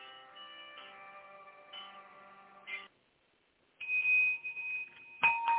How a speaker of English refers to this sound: Do you hear that bell? That bell is just for you, those who have received Jesus and those who rededicated their life.